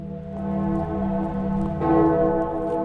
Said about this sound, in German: In immer mehr Orten läuten abends um 7:30 die Glocken.